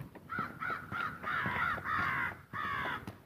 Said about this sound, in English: I don't know if you can hear those crows. They're not very close. They're not like right overhead or anything. They're off in the woods here.